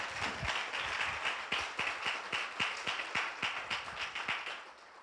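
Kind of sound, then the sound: crowd, audience clapping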